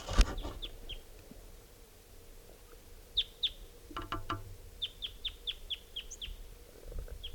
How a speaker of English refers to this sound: Starting at 11:03 a.m. and there's a wild type 2 male here who's in song.